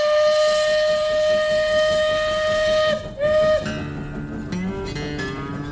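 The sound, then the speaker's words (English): A loud steam whistle blows one long sustained blast, then a short second toot, followed by the rhythmic chuffing and rumble of a moving steam train. “Let's dive in now to Act 2. The train.”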